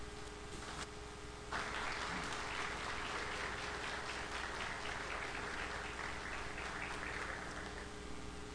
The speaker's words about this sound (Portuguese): a Câmara Municipal de Tibirito hoje aplaudem vocês e parabeniza cada um de vocês, em especial o senhor.